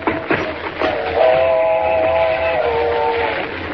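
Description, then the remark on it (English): A train rumbles along the rails, and a long, steady, multi-toned whistle blows over the clatter for about two seconds as the train approaches. “Mr. Kent, there she comes. Thank heavens we're near the tracks.”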